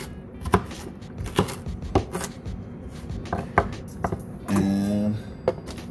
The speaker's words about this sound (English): So what I'm doing right now, I'm dicing up some onions. You can hear me on the chopping board.